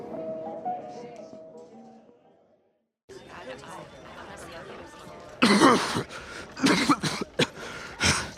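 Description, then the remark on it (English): A man coughs and clears his throat in several loud, harsh bursts near the end, following background chatter and a voice. “Ain't nothing that can cure me of this dang blasted cough.”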